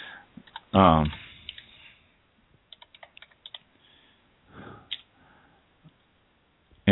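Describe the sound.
A short run of keyboard typing as a phone number is entered, about a dozen quick clicking keystrokes in an uneven rhythm, preceded by a brief loud voice-like sound and followed by a few scattered clicks.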